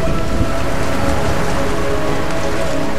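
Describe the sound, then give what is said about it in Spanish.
Heavy rain pours steadily while low, rolling thunder rumbles underneath as a thunderstorm breaks overhead, a dense, continuous storm roar with no voices throughout. “Fue tomando cuerpo y cerrando los horizontes la nube plomiza de la tormenta, que al pasar por el cenit rompió como si el fuego expansivo de un volcán se encerrase en sus entrañas.”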